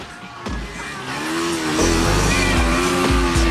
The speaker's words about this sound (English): As the heathens roar off on their bikes